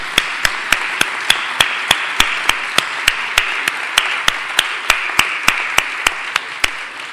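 An audience applauds in steady, rhythmic unison to thank people for their effort, sharp claps landing about three times a second over a continuous hiss of scattered clapping, with no voices.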